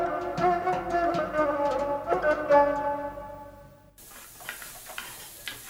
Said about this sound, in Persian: سس من تقریبا به جوش اومده و آماده است.